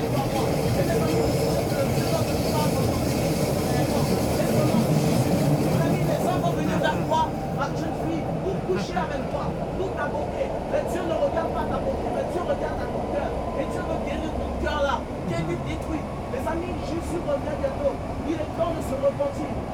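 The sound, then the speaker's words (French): Steady low rumble and rattle of a moving metro carriage, heard from inside, where a young man speaks in French saying that God exists, with indistinct voices murmuring beneath the continuous mechanical drone and occasional faint clicks and squeaks. “On a entendu un jeune homme dans le métro nous dire que Dieu existe.”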